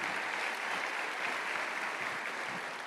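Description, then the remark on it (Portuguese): A crowd of worshippers applauds the Lord during a sermon in a steady, dense wash of clapping that holds even and loud for a few seconds, with no voices standing out above it. “Isso acontece, glória a Deus, pode aplaudir o Senhor.”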